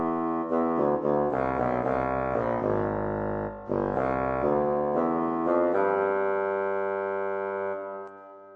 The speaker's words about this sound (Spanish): Y el fagot, que es el instrumento que produce los sonidos más graves.